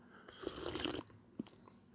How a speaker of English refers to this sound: Let's have a sip of kava.